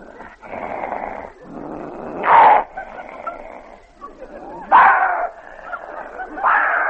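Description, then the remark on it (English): Dogs fighting: a steady stretch of snarling and growling broken by a few loud, sharp barks, harsh, with no talking. “I haven't heard so much barking since the night I took my hat off at the dog show.”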